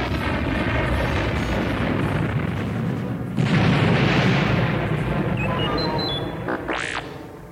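A series of large explosions shaking the Death Star roars as a continuous, heavy rumble, with a bigger blast swelling midway, then brief high whistling tones near the end. Loud, with no voices.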